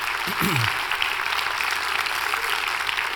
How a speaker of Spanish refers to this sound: Si Dios se habló, da un aplauso al Señor, que Él se lo merece. Amén.